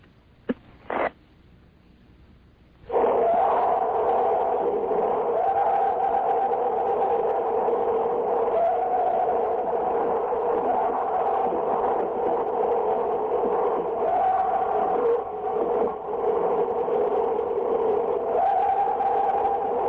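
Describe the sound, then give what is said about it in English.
A purported Bigfoot recording: a long, sustained, very high-pitched, bizarre wailing scream holds steady for about seventeen seconds over a constant lower hiss from the tape recorder, after a few short clicks and thumps. “but you will hear this very high-pitched, very bizarre sort of screaming above the lower noise that I think is her tape recorder.”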